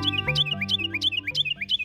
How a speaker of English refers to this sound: Though half the size of a robin, the Carolina wren has a powerful singing voice that seems to come from a much bigger bird. Many people remember their song with the phrase, "Tea kettle, tea kettle, tea kettle."